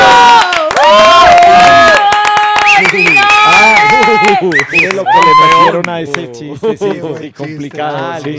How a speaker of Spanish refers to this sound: Sí, yo creo que eso fue grabado. Son aplausos grabados. Obvio. Son originales. Ah, son originales. Yo vi al público aplaudiendo en aquí. Vivo,